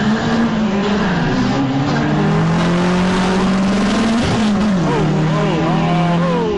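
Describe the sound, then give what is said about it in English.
A Honda Civic's engine roars loudly as it accelerates hard from lane number one down a drag strip, its pitch climbing steadily, dipping sharply at a gear shift, then climbing again with constant engine noise throughout. “Mario Camino pulls up in lane number one in his, looks like a Volkswagen. Honda Civic, sir.”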